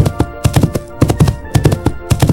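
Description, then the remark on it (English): A rhinoceros sound made of heavy, galloping thuds in quick clusters of three, repeating steadily, loud with no talking. “Rhino. And rhino.”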